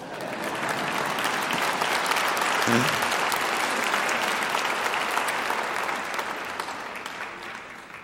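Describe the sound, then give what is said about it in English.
A crowd applauds steadily for about eight seconds, a dense wash of many hands clapping that swells slightly in the middle and then tapers off, with no one speaking over it. “Now, why didn't you clap there?”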